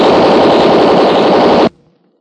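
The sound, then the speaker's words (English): A loud, continuous burst of rapid Tommy gun fire rattles for under two seconds, then cuts off abruptly, leaving a faint fading echo. “That machine gun won't do you any good”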